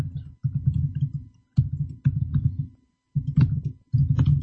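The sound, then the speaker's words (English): Bursts of rapid typing on a computer keyboard, muffled with a deep, thocky tone, come in several runs of about a second each, separated by brief pauses. No one speaks. “I love this keyboard.”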